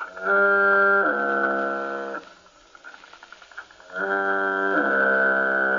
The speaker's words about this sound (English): All right, let's turn on a recording of the foghorn, feed this into Sonovox, and thus hear the foghorn coming out of my mouth.